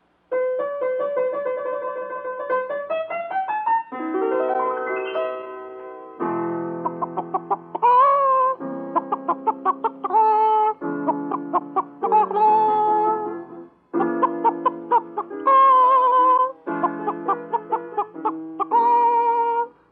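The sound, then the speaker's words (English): Hen-like clucking set to a melody, rising and falling in pitch like an operatic aria, delivered in loud, steady phrases with short pauses between them and no talking; the character Miss Henrietta Hen sings the aria Les Filles de Chicken as the first contestant in a singing contest. “Now, our first contestant is Miss Henrietta Hen, who will sing an aria entitled Les Filles de Chicken N'est-ce pas?”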